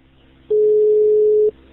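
A single steady electronic telephone ringing tone as the police place a call at 15:36 on a Sunday afternoon, a loud, pure, one-second beep over faint background hiss, heard alone with no talking.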